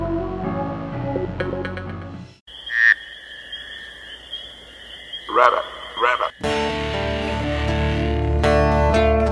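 A few sharp frog croaks ring out against a steady, high-pitched night chorus, framed by music before and after. The calls are clear.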